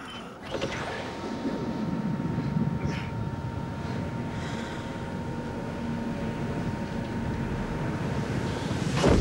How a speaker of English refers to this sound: A fierce storm batters two men standing outside.